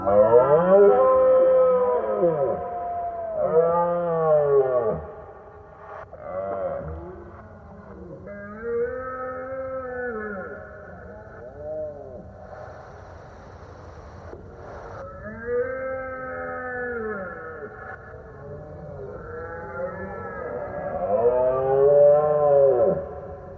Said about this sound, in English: particularly, I think that sound of the roaring deer